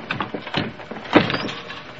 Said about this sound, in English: We squished into Steffler's closet right before we heard a door opening downstairs. Someone was talking. Couldn't hear what they were saying.